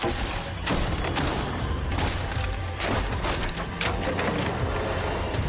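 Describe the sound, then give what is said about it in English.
Wooden boards are ripped off a slatted false wall, which is then kicked and smashed, with a rapid string of loud cracks, thuds and splintering crashes over a dense, continuous clatter of debris. “She rips boards off, kicks, and smashes the false wall.”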